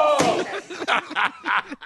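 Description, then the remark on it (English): A series of sharp hand slaps land in a quick, uneven rhythm, about five in all, fairly loud, with a voice moaning and vocalizing between them, in a basement. “My favorite part continues to be you moaning and his slapping.”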